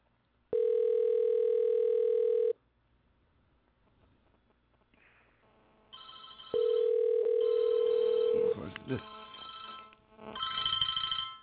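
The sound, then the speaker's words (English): A telephone ringback tone while calling: two loud, steady, mid-pitched buzzing tones about two seconds each, with a pause between, and faint chirpy electronic noise after the second ring. “We're going to try to call you son of a bitches again.”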